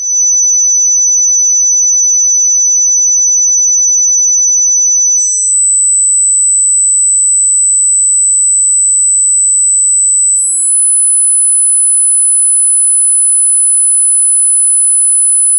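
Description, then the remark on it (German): A piercing, high-pitched sine test tone, including 10 kilohertz, is broadcast on FM radio, sounding steadily and alone, stepping up in pitch twice into ever shriller pure whines, each held for about five seconds at a constant loud level. “Ich glaube, das ist einmalig in der Radiogeschichte, dass im modernen UKW-Radio mal ein Sinuston übertragen wird.”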